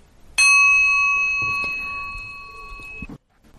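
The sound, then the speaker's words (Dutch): A single bell is struck once, loud, its clear metallic tone ringing with steady overtones and slowly fading for a few seconds before being cut off, during recitation of the Amitabha mantra. No one speaks. “21 keer samen, dan sla ik met de bel en reciteer jezelf verder totdat je dit ongeveer 100 keer gedaan hebt.”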